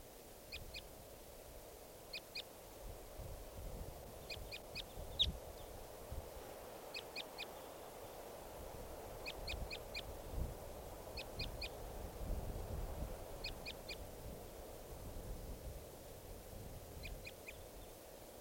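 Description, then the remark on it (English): A wild bird, a lone male, calls repeatedly with short, high, sharp notes in quick clusters of two or three, recurring every second or two over a low background rumble. No one speaks. “And this is a wild bird.”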